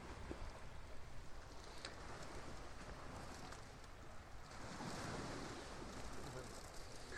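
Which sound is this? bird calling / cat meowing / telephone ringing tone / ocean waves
ocean waves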